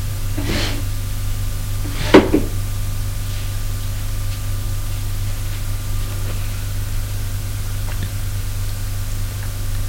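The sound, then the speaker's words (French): An unlatched door swings open by itself with a couple of soft, brief clunks, a faint click followed by a slightly louder knock a second and a half later, over a steady low hum and hiss. “La porte, qui n'est pas fermée, s'ouvre d'elle-même.”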